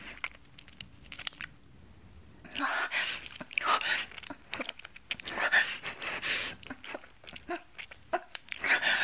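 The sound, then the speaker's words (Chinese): Wet slurping and sucking noises from a mother and son eating stir-fried clams, starting after a quiet couple of seconds, then a steady stream of smacking, clicking mouth sounds without talking. “哦，对，我们开饭了，吃的是炒花甲，肉质啊鲜嫩多汁。你听，我们母子的啧啧吮吸声。”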